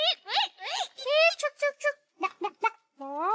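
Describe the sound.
A high-pitched child's voice imitates a chicken clucking: a quick run of short, squawky bursts, then a longer drawn-out call. Fairly loud.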